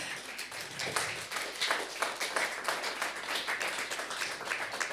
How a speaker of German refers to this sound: Ja, das war Applaus.